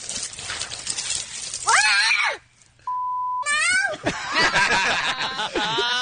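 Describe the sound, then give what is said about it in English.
A 2-year-old girl shrieks and squeals as she gets hit with ice water, then a single short, steady censor beep cuts in over her swearing mid-clip before the loud, high-pitched cries resume. “It's beeped out, but the 2-year-old swears like a sailor when she gets hit with the ice water.”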